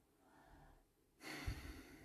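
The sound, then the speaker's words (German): A soft breath in, then a louder, rushing exhale, like a heavy sigh or breath out lasting about a second. “Oh, das Atmen ist schon gut, ne?”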